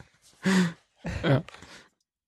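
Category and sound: human body sound, person yawning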